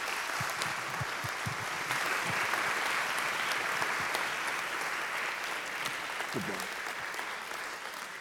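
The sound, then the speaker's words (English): An audience at Harmony Hill applauds steadily to welcome speaker Dr. Henry Morris on a Sunday morning, a dense, sustained wash of clapping hands with a few brief voices and cheers mixed in, holding strong before easing slightly at the end. “But I want you to get ready, and let's give him a Harmony Hill welcome this morning.”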